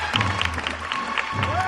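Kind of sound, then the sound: crowd, crowd applause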